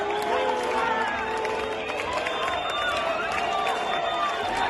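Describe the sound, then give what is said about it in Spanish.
A dense, steady crowd roar at a Catalan separatist demonstration greets the arrival of the Catalan president, with overlapping shouts of "president" and insults such as "traidor", whistles and boos, and some applause, all fairly loud and continuous throughout. “A la llegada del presidente catalán a la manifestación, que partió a las 5:15 de la tarde, se escucharon aplausos, se escucharon gritos de president y también silbidos y abucheos, llamándole butifler, traidor.”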